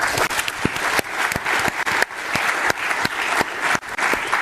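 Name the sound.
audience applause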